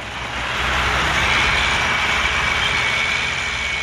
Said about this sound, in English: We are shouting at each other outside Neil Walker's house as it's being pulled down.